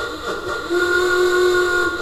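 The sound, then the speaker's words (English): A theatre organ sound effect for movies, one not available on a church organ, imitating grandpa's old Model T car: a reedy, whistle-like chord that starts softly, then swells and holds at a steady pitch for about two seconds, with no talking. “We have like the mom and grandma and grandpa's old Model T.”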